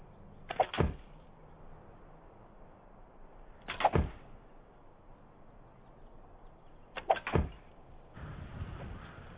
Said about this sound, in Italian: Questo è molto interessante. Due frecce sono penetrate. Una è rimbalzata e l'altra non è entrata del tutto. Ma la cosa più rilevante, o forse raccapricciante, è che la freccia rimbalzata ha in realtà spezzato gli anelli della maglia.